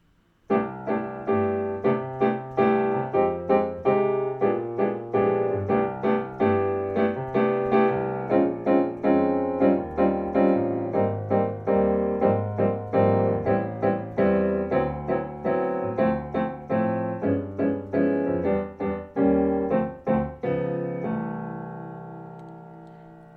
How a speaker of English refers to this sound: This is a standard that tends to work well in 7. So we'll just play with the chords for now with that clave.